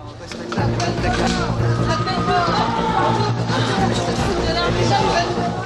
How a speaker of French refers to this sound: La foule s'était amassée autour du palais de justice, et c'est une foule qui crie. Qui crie à mort, salope, enfin, il faut la pendre.